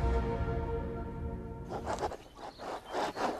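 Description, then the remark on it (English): An antique fountain pen scratches across linen paper in a quick series of dry strokes as someone journals in a park, following a short low tonal hum at the start. No one speaks. “The sound of your antique fountain pen gliding across linen paper as you journal in the park.”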